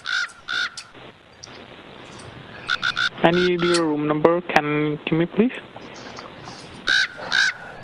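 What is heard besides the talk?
pet bird calling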